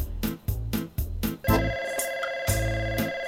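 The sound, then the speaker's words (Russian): A bright electronic phone ring sustains over a steady pulsing beat, starting partway through after a few punchy rhythmic hits, fairly loud, with no voices. “Дзынь, алло, дорогая, это ты? Алло, алло, алло.”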